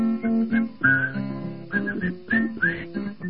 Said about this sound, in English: Yeah, I'm not whistling so good.